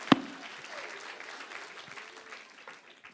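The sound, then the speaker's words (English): A short burst of light applause from a small group, starting with one sharp clap and settling into a steady patter of hands that thins out toward the end. “A little applause.”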